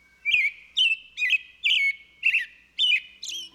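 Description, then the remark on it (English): Birds that nest on a structure that is moving all the time chirp in a steady series of seven bright, high-pitched calls, each short and evenly spaced, repeating about twice a second with no talking. “These birds are making their nests that contain their precious eggs on a structure that is moving all the time, and they have found a way to do it, which I think is just remarkable.”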